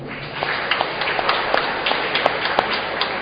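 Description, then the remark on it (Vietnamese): An audience at a Mass applauds the team of ministers. It is a steady, dense wash of many hands clapping, with a few sharper individual claps standing out, fairly loud and without any talking. “Lần nữa xin cảm ơn tất cả quý ông trong ban thừa tác viên bằng một tràng vỗ tay nữa.”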